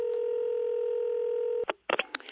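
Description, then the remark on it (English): A steady telephone dial tone hums for about a second and a half, then cuts off abruptly, followed by a few short, sharp bursts of sound as the line connects. “But other things may not be so happy, as one might discover from listening into a certain phone conversation.”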